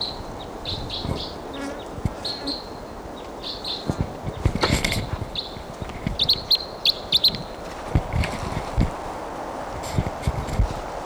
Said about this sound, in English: Bird, different bird.